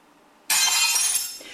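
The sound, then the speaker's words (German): Glass breaking: a sudden loud crash at about half a second, a bright high-pitched shatter that keeps sparkling for about a second, fading slightly toward the end. No one speaks. “was hast du schon mit kaputt gemacht?”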